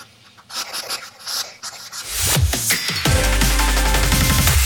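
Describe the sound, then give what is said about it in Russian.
A hedgehog puffs and snuffles in quick, scratchy, breathy bursts for about two seconds, then a louder, sustained, tonal, music-like sound takes over. “Тогда кислые довольные ежики пыхтят от счастья.”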